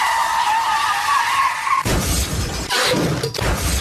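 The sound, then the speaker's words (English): A bus's tires skid loudly, squealing for nearly two seconds, then cut into a heavy crash with crunching impacts and breaking glass that clatter on briefly. No voices are heard. “I'm going to grab the steering wheel. I'm going to crash this thing.”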